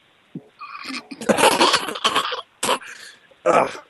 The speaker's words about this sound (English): I'm coughing because I deal with diseases all day long.